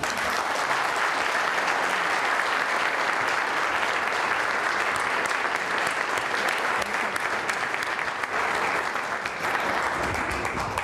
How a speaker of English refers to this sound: Let's give our outstanding group of awardees and honorees this evening another round of applause.